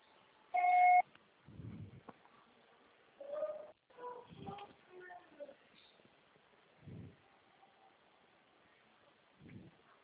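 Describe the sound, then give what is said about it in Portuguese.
A single loud, steady electronic answering machine beep sounds near the start, the signal to record a message, followed by scattered muffled thumps and faint garbled noises. “Seu pessoal será tarifado após o sinal.”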